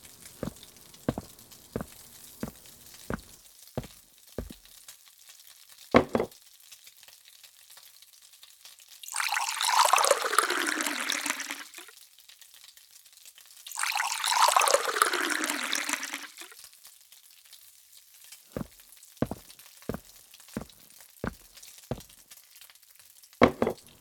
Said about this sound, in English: The coffee maker just finished. Why don't you pour yourself and me a coffee?